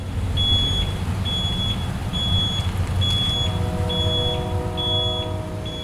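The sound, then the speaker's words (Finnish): A heavy truck engine rumbles steadily while a high-pitched warning beep repeats at a regular pace, and the motor's tone shifts partway through as it works harder; the truck carries pieces of a shipwreck to Vantaa. “Kun löytö oli saatu ylös ja dokumentoitua, lastattiin hahtiperän hylky pala kerrallaan rekka-autoon ja ajettiin Vantaalle.”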